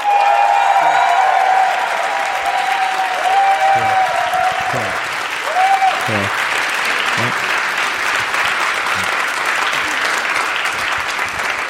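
Sustained, loud audience applause with cheering and whistles, a dense wash of clapping that holds steady throughout, with occasional shouted voices rising above it.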